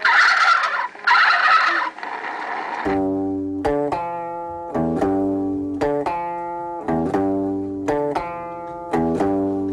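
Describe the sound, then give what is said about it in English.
A loud, raspy rooster call fills the first few seconds in two rough bursts, then gives way to rhythmic music with punchy, sustained chords repeating steadily to the end. “The rooster says...”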